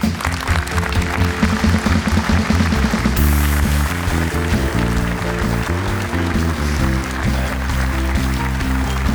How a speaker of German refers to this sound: Trotzdem kriegt der Trainer einen Applaus jetzt bei uns, denn er ist zum ersten Mal im Doppelpass. Hier ist Sandro Schwarz.